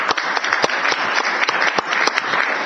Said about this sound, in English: So I'd like to give you all a big round of applause.